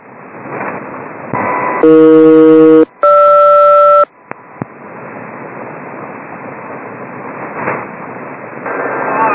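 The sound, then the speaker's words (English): Two back-to-back SELCAL tone bursts, each about a second long, ring out loud and steady over crackling, hissy shortwave radio static, followed by a couple of sharp clicks. This is a SELCAL check on code Alpha-Echo-Golf-Romeo, sent by Halifax Military to aircraft Hunter 2-1. “Hunter 2-1, Halifax Military, stand by, cell call check, Alpha, Echo, Golf, Romeo, over.”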